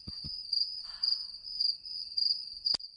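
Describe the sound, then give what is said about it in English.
A steady, high-pitched trill of crickets chirping continuously, with regular pulses of emphasis, moderately loud, punctuated by a few brief thumps and clicks. “I hear the crickets. I don't need headphones to hear that.”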